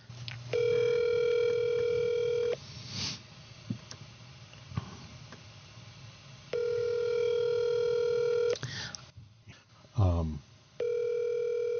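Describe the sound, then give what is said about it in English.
An outgoing call rings on the line: a steady electronic ringback tone sounds in two-second bursts with long gaps, three times in all, with the last cut short and faint background noise between rings. “See, why do the people in my life have phones? They don't answer them.”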